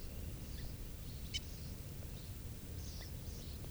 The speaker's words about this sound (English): At 6:52 a.m. Stop. There's a hawk here, and this is bird 395 giving alarm calls.